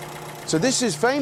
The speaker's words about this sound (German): Das ist das Auto vom Ermittler Bergerac aus der Fernsehserie, die auf Jersey spielt. Ein Triumph Roadster und er schnurrt leise vor sich hin.